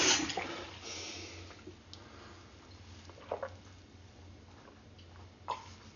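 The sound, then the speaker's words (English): Water pours into a large glass, a loud rushing splash at first that settles into a softer steady trickle, with a few small clinks and drips toward the end. “Large glass of water.”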